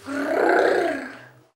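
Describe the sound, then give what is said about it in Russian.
A wolf growls once after running to a house, a deep, rough snarl that swells to full strength and then fades out over about a second and a half, loud with no talking. “Волк побежал к дому и зарычал.”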